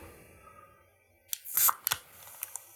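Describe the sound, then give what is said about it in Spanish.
A Modelo beer being opened: a sharp metallic click, then a short bright fizzing hiss, followed by a few more small clicks and taps, all on their own after a moment of near silence. “antes de que se lo lleve totalmente, déjame destapo.”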